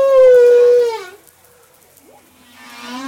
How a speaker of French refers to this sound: Alors, aidez-nous, Olivier Adam, à analyser un chant de baleine que vous avez enregistré au large de Madagascar.